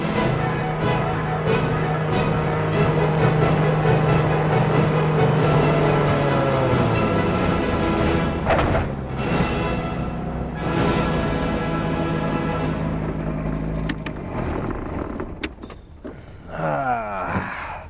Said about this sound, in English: Georgetown traffic, ultralight approaching from the west, runway 34, Georgetown.